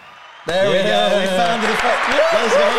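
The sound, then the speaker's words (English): After a brief quiet moment, a loud burst of applause sound effect played from a soundboard kicks in abruptly, with cheering voices mixed into the clapping, sustained at full volume until the end. “Let's get a round of applause, everybody.”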